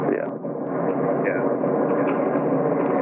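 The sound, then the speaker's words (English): A steady, dense roar of airplane cabin noise during landing, heard as if through a telephone line, holding at a constant loud level for the whole few seconds. “Somebody's got a train going by, or are you on an airplane?”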